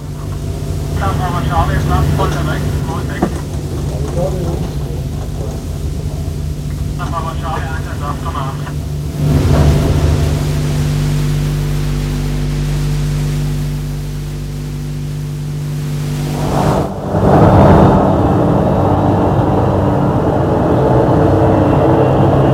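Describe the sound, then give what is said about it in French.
About ten helicopters drone steadily overhead, flying over the city of Paris on a search, a loud, continuous low engine rumble with a layered hum that swells and shifts, briefly surging louder near the middle and again toward the end. “Les hélicoptères sont partis et sillonnent la ville de Paris.”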